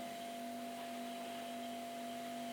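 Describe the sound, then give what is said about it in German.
A steady, faint refrigerator hum drones on without change, a low electrical tone over a soft wash of constant noise, with no voices. “Der Kühlschrank brummt.”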